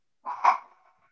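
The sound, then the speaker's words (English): A dog lets out one short bark, a quick rising yelp that peaks sharply and fades, heard on its own at moderate volume with no talking. “Yes, I'm going to mute because you hear my dog.”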